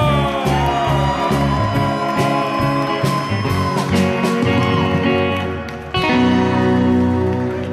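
audience cheering and whooping

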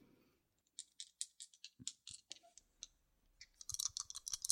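dice rolling

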